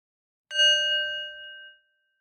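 bell ringing

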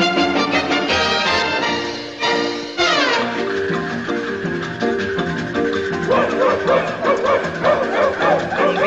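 small dog yapping

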